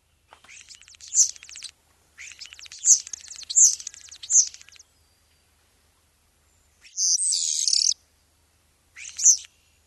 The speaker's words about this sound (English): Oh, so this is a starling call.